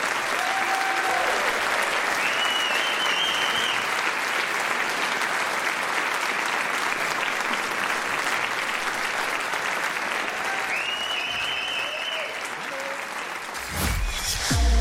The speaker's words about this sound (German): Herzlich willkommen mit einem tobenden Applaus.